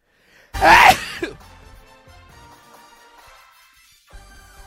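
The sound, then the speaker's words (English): A single loud sneeze bursts out with a sharp explosive onset, then trails off into quiet room tone with faint background murmur. “Oh, did you sneeze? That's what that was.”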